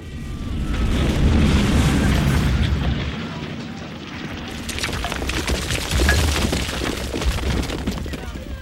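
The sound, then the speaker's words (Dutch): Bombs dropped from aircraft explode in a continuous, heavy roar of deep rumbling booms layered with crackling debris, staying loud throughout with slight swells rather than separate distinct blasts. “Er worden ook bommen gelost.”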